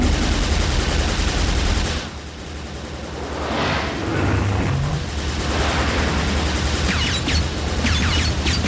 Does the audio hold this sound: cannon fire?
yes